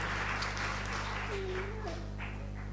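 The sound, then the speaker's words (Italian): A crowd applauding, a steady wash of dense, overlapping clapping that holds at an even level throughout, with a short high whistle rising through it partway. “Niente, un applauso.”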